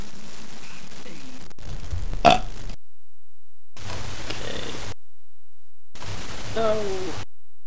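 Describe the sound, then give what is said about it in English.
Deep, guttural emu grunts and rumbling calls arrive in three short bursts separated by abrupt silences, with a sharp crackle of static in the first burst, fairly loud. “Is that emu static I hear? Yes, it is!”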